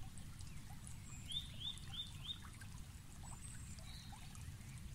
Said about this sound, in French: Vous regardez le ruisseau et avez la sensation qu'il vous attire à lui, comme une jolie invitation tacite à le rejoindre.